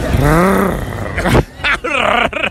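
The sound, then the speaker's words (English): A man imitates a panther's mating call: one long, loud, gravelly roaring growl, then a brief pause and two shorter guttural snarls that rise and fall in pitch. “What would that animal's mating call sound like? So the panther.”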